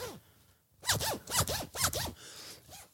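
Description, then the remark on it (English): A clothing zipper is pulled up and down in several quick, rasping strokes, loud and close to the microphone, with quiet before and after and no talking. “If you are listening to the audio version, you just heard my zip go, hopefully.”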